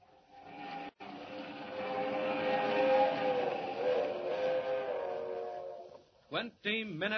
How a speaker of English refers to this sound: Roaring up the Rockies to the crossing at San Joaquin. The cracked streamliner of the West Coast Railroad rushes through the dark at 80 miles an hour, destined for a watery grave at the bottom of Schooner Canyon Lake.